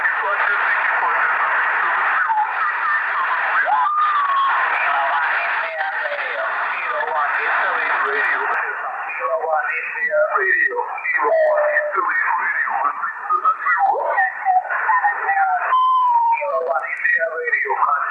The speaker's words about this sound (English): You can hear while he's clicking in DSP. Wow, let's do that one again. Hey, QSL, QRZ, Kilo 1 India Radio, Kilo 1 India Radio, 7022, 7022. And in between, you don't hear that rush of noise. That is quiet.